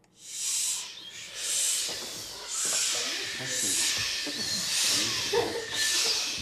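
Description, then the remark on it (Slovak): Someone demonstrates a model inhale and exhale during a voice lecture for reciters at the Dni Mateja Hrebendu festival in Levoča, audibly breathing in a steady rhythm: about six airy, hissing breaths in a row, with a faint low murmur underneath. “Ešte jeden vzorový nábyť a výbyť.”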